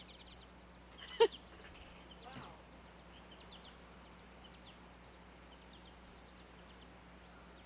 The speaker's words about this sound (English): And there's a very noisy bird right over my head.